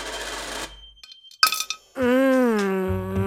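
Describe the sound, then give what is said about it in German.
Coins, including a large euro coin, clink sharply with a brief metallic rattle into a piggy bank after some soft clicks, then a long wavering, pitched electronic-sounding tone takes over. “Eine schöne große Euro-Münze.”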